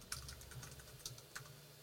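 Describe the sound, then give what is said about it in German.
Quiet, rapid typing on a computer keyboard, a string of soft clicks at an uneven rhythm with a few sharper keystrokes, heard alone over a low background hum. “Das Tippen noch.”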